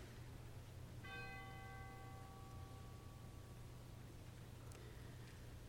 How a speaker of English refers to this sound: And a final chime for all those lost but not listed.